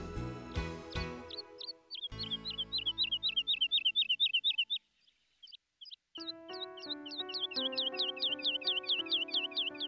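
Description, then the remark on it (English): A nightingale sings a long run of quick, bright chirping notes repeated in rapid bursts, with a brief pause midway, over soft sustained background music. “So the little nightingale sang one final song for the oak tree.”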